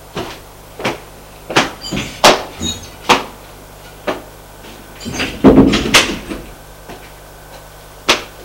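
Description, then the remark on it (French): A series of sharp clicks and knocks from an apartment door being handled and opened as a man leaves the apartment, then a louder thudding clatter as it swings shut, with a few more latch clicks after. No voices. “Il sort de l'appartement.”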